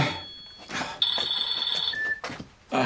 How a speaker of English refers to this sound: Jenny, your phone!